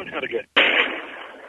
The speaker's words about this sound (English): It's another explosion right outside his front door.